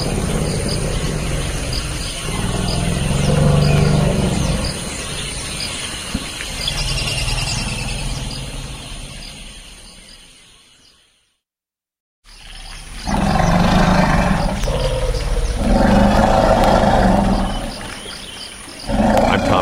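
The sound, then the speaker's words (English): Two forest elephants in the Central African Republic, excited about a mating event, greet each other with loud rumbling roars and high squeals, in two long bursts broken by a brief silence, over a steady hum of insects; recording from Cornell's Elephant Listening Project. “Behind me, the sound of two forest elephants greeting each other in the Central African Republic, courtesy of Cornell's Elephant Listening Project.”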